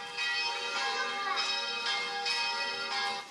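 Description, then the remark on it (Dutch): Church bells ring out in overlapping peals, their bright metallic tones sustaining and swelling in a steady rhythm of repeated strikes, with no voices over them. “Dan gaan wij wat zingen over de klokken.”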